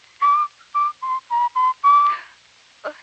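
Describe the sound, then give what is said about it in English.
Someone whistles a short tune with puckered lips, six clear, steady notes in a bouncing rhythm, fairly loud, ending with a faint breathy puff. “Whenever you feel sad, the best way to keep from crying is to whistle.”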